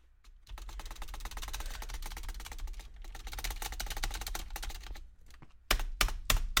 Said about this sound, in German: Die Tastatur ist lauter als alles andere.